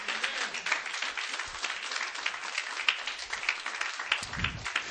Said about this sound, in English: Come on, clap your hands unto God tonight.